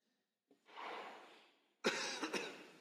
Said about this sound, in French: Alors, frères et sœurs, je vous demanderai pardon si de temps en temps vous aurez des quintes de toux qui arrivent.